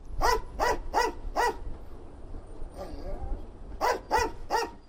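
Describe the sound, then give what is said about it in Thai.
Asha, a female English Springer Spaniel sniffer dog at Jomo Kenyatta International Airport in Kenya that checks passenger luggage for smuggled ivory, barks in a quick run of four sharp barks, goes quiet with a faint whine, then lets out three more rapid barks. “อาชาคือสุนัขเพศเมียพันธุ์ English Springer Spaniel ที่ประจำอยู่ที่สนามบินนานาชาติโจโมเคนยัตตาในเคนยานะครับงานของอาชาคือตระเวนดมกลิ่นตามกระเป๋าสัมภาระผู้โดยสารเพื่อหางาช้างเถื่อนที่ถูกลอบนำไปใส่ไว้ในกระเป๋าเหล่านั้น”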